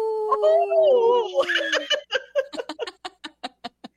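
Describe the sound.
A person imitates a wolf howl with a drawn-out, wavering, falling tone lasting about two seconds, then dissolves into a run of short, rhythmic bursts of laughter.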